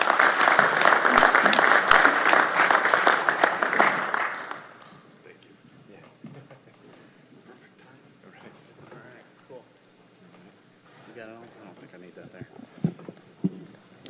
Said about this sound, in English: All these gentlemen are original members of the Draft Beer Quality Subcommittee, have been working for 6 years minimum, 7 years or 8 years probably, on draft beer quality. So let's give them a warm round of applause.